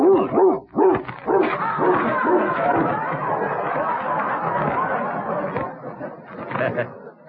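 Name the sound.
dog barking and whimpering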